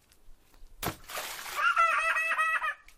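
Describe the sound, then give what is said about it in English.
A sudden splash as a child drops into water, followed by a brief spray and slosh, then a high-pitched child's voice calling out excitedly over the settling water. “Ready for me splash again. Is it my turn to jump in, do you think?”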